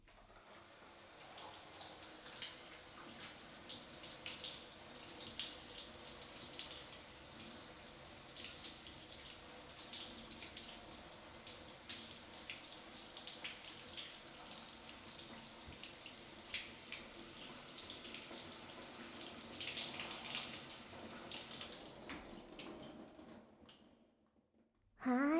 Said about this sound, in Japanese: じゃあ最後にシャワーで泡を流しちゃおうね。